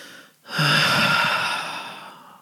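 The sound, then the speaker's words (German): After a short pause, a long, deep, hearty exhale rushes out during a guided breathing exercise, a loud, breathy whoosh that slowly tapers off over about two seconds. “Atme ein und wir sind alleine, nur du und ich, und wir atmen ganz herzhaft aus.”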